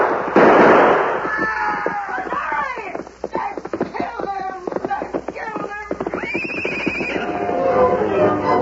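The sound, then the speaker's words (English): A rapid, irregular volley of gunshots, dozens of sharp loud cracks fired in quick succession for several seconds, with shouting voices and other commotion mixed underneath. “He's glad to go anywhere if it's away from that shooting.”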